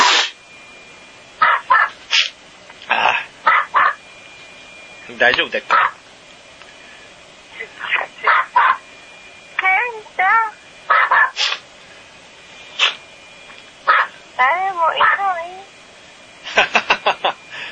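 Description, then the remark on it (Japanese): A pet dog barks in a string of short, sharp, irregular bursts, some in quick clusters, fairly loud, though no one is there, while a person on a phone call briefly speaks in between. “飼い犬がなんかこうやって吠えてます。”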